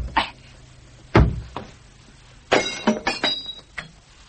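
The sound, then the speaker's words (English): A door latch being worked open: a solid clack, then a quick flurry of metallic clicks and rattles as the latch lifts and the door gives, with no voices. “I didn't see the door opening.”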